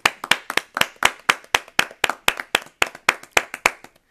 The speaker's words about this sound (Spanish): Un aplauso para el ingeniero Figuel.